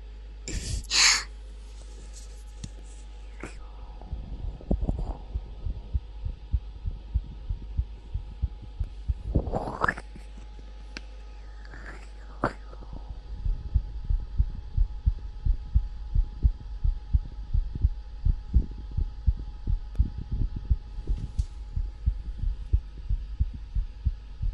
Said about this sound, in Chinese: 听着我的心跳，让我表达一下，我是多么欣喜 冲进这一刻，听听我的心跳声，来吧，主人。